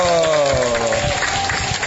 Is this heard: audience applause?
yes